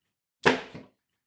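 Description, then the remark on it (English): A shoe is dropped on the floor in a hotel to make a sound effect, hitting with a single dull thud, followed by a softer second knock as it settles, then silence. “there's a shoe here. Let me try the shoe.”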